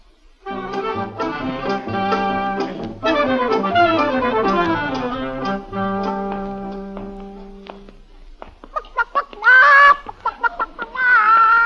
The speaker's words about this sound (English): Tugwell, we're going to buy a live chicken.